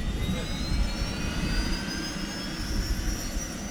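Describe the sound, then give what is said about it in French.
A rescue helicopter's turbine engine whines steadily over a deep, churning rotor rumble as the rescue team rushes aboard to reach a climber who fell while ascending Mont Pelvoux in the Écrins massif; loud and continuous throughout with no voices. “Les hommes se précipitent dans l'hélicoptère.”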